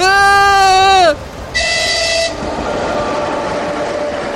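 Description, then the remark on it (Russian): A loud, blaring train whistle sounds in two long blasts, the first bending downward in pitch before a short gap, followed by the steady rumble of a train passing onto a railway bridge. “Воздух прорезал оглушительный, протяжный гудок.”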